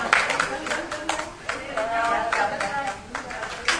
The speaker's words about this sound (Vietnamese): Có hôm nay nè, giống như đang ngồi trong hội trường này nè, đâu hai vợ chồng đó, là mời quý vị đứng lên để hưởng một tràng pháo tay của đại chúng đi.